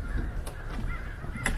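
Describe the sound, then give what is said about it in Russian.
Crows caw in a noisy flock off to one side during an outdoor walk, two harsh caws standing out over a steady outdoor rumble, not very loud. “А слышишь, там гвалт такой птичий?”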